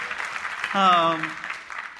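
An audience claps steadily throughout, a dense wash of many hands at moderate distance, with a brief held tone rising over the applause partway through.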